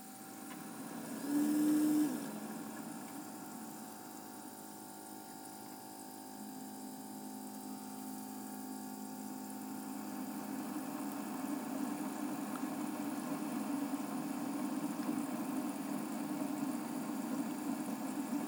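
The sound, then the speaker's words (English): A K-cup coffee maker, set to brew a large cup, hums steadily while heating water, opening with a brief louder whir, then a low, even drone with faint tonal whine that swells slightly toward the end. No voices. “And it's heating up some water.”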